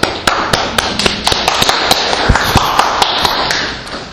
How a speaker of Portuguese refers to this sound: Um aplauso para o professor.